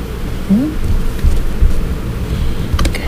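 A thunderstorm rumbles low and steady under a constant wash of rain, with a few sharp cracks near the end and a brief rising tone early on.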